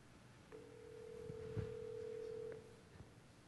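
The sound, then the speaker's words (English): A steady electronic phone ringback tone of an outgoing call, placed from a phone to escalate from instant messages, holds for about two seconds at moderate volume, with a few faint clicks and soft background noise around it and no one speaking. “So let me just call him and show you what happens when I escalate to a call.”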